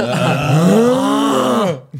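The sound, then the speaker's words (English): A person loudly imitates a dad's snoring with one long, rumbling vocal groan that rises slightly in pitch, lasting almost two seconds before cutting off. “When your dad's snoring.”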